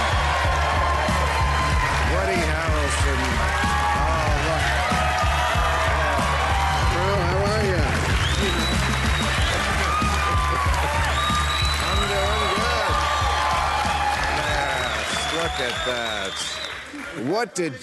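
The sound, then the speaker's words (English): A talk-show studio audience bursts into loud, sustained applause mixed with cheering and whooping voices for actor Woody Harrelson, a dense steady roar of clapping that holds for the whole stretch before tapering slightly at the end. “Look at that. They're yelling at you.”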